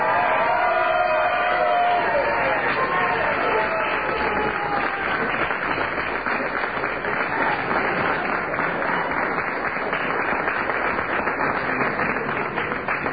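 A large crowd claps and cheers loudly and continuously, a dense roar of applause with whistles and shouts rising over it at the start, holding steady for the whole stretch.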